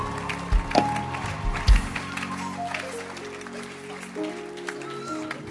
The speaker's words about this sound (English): Oh, your hand clap can be better as we welcome our service pastor,